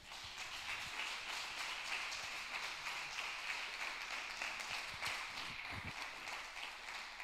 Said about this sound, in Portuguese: Feche seus olhos em nome de Jesus e dê o seu melhor aplauso a Ele.